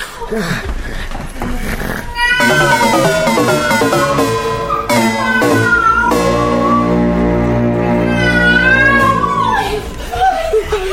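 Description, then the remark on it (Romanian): A cat meows loudly in several long, drawn-out cries with rising and falling pitch, nearly continuous after a brief quieter opening. “Hai, pisica, vai de mine.”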